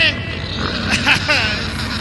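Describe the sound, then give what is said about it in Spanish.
A human voice imitates a pig, making loud grunting and snorting noises that run continuously for about two seconds with a few squealing rises. “escucho el gruñido que sale de mi boca.”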